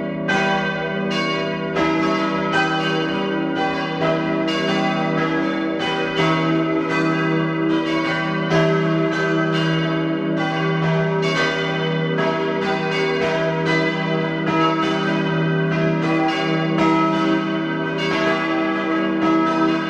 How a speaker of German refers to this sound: Es ist 12 Uhr. Sie hören die Glocken der Pfarrkirche Riedau in Oberösterreich.